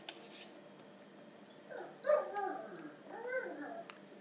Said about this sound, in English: Little squeaky doggy. Little squeaky doggy. Yeah.